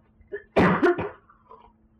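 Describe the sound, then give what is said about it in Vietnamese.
A person with a cold who has not taken cold medicine coughs in two or three quick, harsh, fairly loud bursts, followed by a faint throaty rasp as it fades out. “Thuốc cảm không uống là ho hết.”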